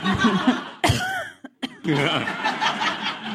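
human body sound, person coughing

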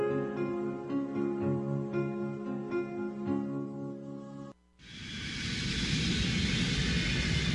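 vehicle, airplane cabin ambience

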